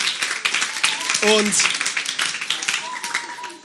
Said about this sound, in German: Gebt euch mal selber einen fetten Applaus. Ihr seid der Hammer.